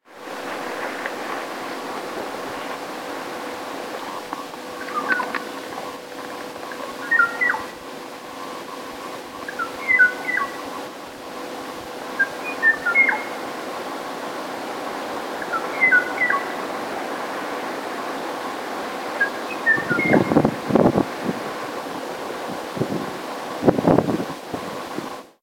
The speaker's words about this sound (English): That's the song. It's supposed to be a duet. You can hear the silences where the o'o still waits for a reply.